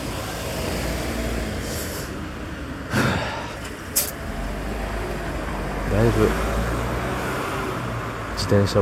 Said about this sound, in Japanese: 自転車じゃない車が多くなってきた。